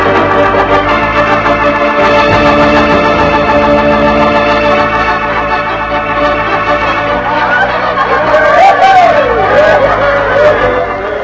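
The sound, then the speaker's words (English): A dense, steady hubbub of many voices chattering at once in a dance hall fills the whole stretch, with an occasional higher call or whoop rising out of the babble near the end. “We will go to the dance hall and report to the sheriff.”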